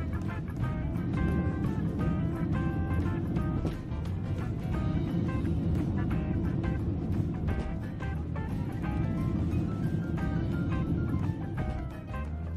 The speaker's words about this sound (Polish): Coś, czego na pewno nie chcielibyście zobaczyć podczas swojego lotu. Start Boeinga 767 turystycznego przewoźnika TUI i głośne strzały z silnika.